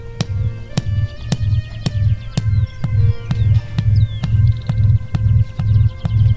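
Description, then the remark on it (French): Deep, low booming display call of a houbara bustard, a sound that can carry more than 600 metres, pulsing in a steady rapid rhythm, with faint small-bird chirps and sharp ticking clicks in the background. “Le son pouvant s'entendre à plus de 600 mètres, on imagine que les femelles finissent par se rapprocher et aller y voir de plus près”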